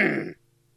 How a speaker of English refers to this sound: Let me get started here. Yeah, clear your throat. Let's hear it.